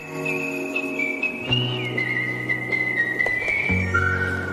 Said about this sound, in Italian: Vai col fischio.